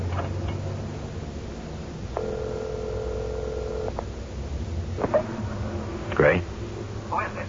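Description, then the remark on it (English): A steady telephone dial tone from a telephone booth at a highway gas station hums for nearly two seconds, then a few short dialing beeps and clicks follow over a low, rumbling background. “You got a phone? A telephone booth round side.”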